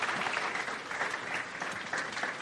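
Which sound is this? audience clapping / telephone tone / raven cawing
audience clapping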